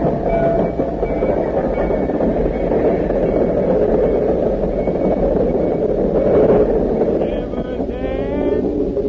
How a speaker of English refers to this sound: There's the train now.